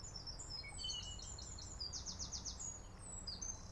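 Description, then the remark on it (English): Several birds chirp and trill outdoors on a fine day, including a quick repeated rising phrase, over a steady low rumble of distant traffic. No one speaks. “I shall now invite you to listen to the birds and the distant traffic.”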